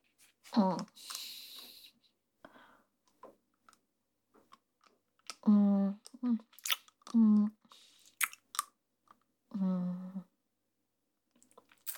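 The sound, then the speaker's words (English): Someone chews on a pen, producing scattered soft clicks and wet biting taps, interrupted by a few short, low voiced murmurs or hums between bursts of chewing. “But, let me fucking chew my pen in peace.”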